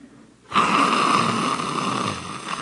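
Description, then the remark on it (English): After a brief hush, a person lets out one long, loud, exaggerated yawn, a breathy, roaring groan that holds steady for about two seconds, mimicking a lion. “A big old lion yawn.”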